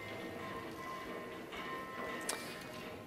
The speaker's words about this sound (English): We heard footsteps as we're walking along.